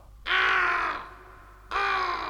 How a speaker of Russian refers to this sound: Ну, конечно. Конечно, кроме черного ворона, который сидит на ветке, все видит и все слышит.